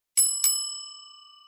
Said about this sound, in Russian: Перед нами дверь в закрытую секцию коридора, слева кнопка звонка. Это первый фильтр от непрошенных гостей. Нажимаем на кнопку.